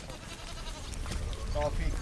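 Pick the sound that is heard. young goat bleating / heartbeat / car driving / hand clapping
young goat bleating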